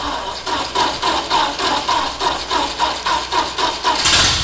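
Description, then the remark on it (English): An automobile's internal combustion engine cranks with a steady, rhythmic chugging, about three pulses per second, before roaring into a louder, fuller burst at the end as it catches. No voices. “The internal combustion engine mounted on wheels to form a portable fountain of energy, the gas buggy, the automobile.”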